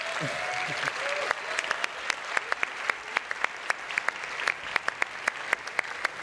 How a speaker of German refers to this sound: Vielen Dank fürs Teilnehmen. Bitte einen großen Applaus für alle, die sich auf die Bühne getraut haben.